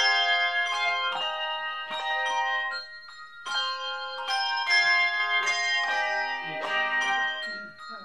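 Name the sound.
handbell choir playing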